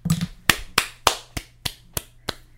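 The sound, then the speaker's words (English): Seven sharp hand claps in a steady, fairly quick rhythm, each crisp and bright, the later ones slightly softer. A faint low murmur comes just before the first clap. “Thanks for those claps.”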